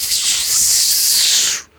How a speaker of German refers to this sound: Du guckst dahin, du versuchst diese Worte zu formen, aber du hörst nur eine Art Zischen. Das Wesen dreht sich auch zu dir und zischt zurück.